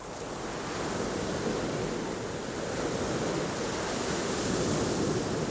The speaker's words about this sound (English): Coloured beach huts in a row, waves licking the shoreline to and fro.